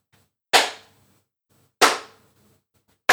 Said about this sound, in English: It's those three big claps. So hold your hands out in front of you and give yourself a short round of applause.